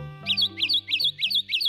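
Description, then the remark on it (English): A tiny Kentucky warbler, hidden in a tree's dense leaves, sings a rapid series of five bright, rolling two-part phrases, loud and evenly spaced, over a low steady hum. “Hidden in a tree's dense leaves, a tiny Kentucky warbler sings its heart out.”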